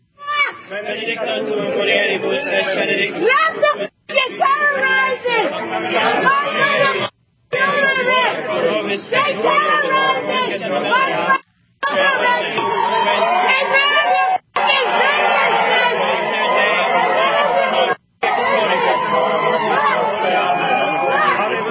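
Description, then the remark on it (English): A loud crowd of hundreds of protesters on a street outside a Catholic church, shouting, cussing and screaming, many overlapping voices forming a dense, continuous roar of yelling and chatter, broken only by a few abrupt silent cuts. “Listeners, there's so much cussing and screaming, you can't really even hear it, but there's a woman in a bathing suit ripping babies to pieces.”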